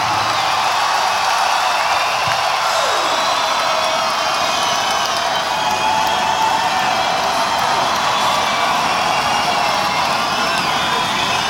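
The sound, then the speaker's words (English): A large audience at a live show claps and cheers for a keyboard player in a dense, steady roar of applause that stays loud and unbroken for about eleven seconds, with scattered whoops rising above the clapping. “Give it up one time for … on the keyboards here tonight. Come on, give it up.”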